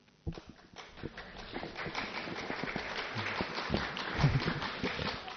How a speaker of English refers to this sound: Very good. I've got one person clapping. Ah, so kind of you. And she clapped from stillness.